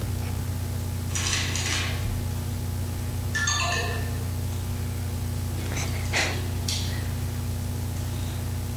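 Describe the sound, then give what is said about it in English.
A short electronic reminder tone from an R Plus reminder timer in a self-management system sounds once, signaling a student to check whether he is on task: a bright chirp sliding downward in pitch, with soft rustling bursts before and after over a steady low background hum. “using a self-management system with the R Plus reminder signaling him when he needs to check.”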